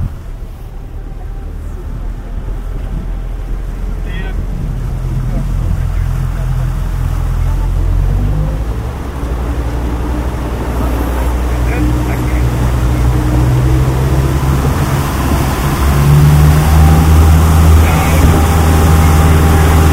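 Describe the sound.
A boat ride through the Jökulsárlón glacier lagoon, where small icebergs drift, with a steady low motor drone and rushing wind noise throughout, loud, with faint voices occasionally audible beneath the engine.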